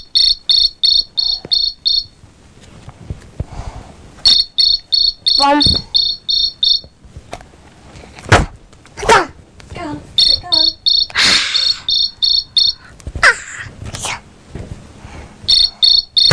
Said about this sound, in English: Cricket. Is it a cricket? Yeah.